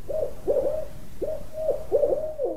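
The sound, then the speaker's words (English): A series of short owl hoots, calls of spotted or barred owls captured by an audio recorder in the northern Sierra Nevada, repeat in quick bursts, hollow and mid-pitched, over faint background hiss with no one speaking. “And then they listened for 2 years, collecting the faint calls of spotted owls and barred owls, too.”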